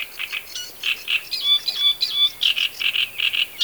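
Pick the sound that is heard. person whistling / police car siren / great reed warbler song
great reed warbler song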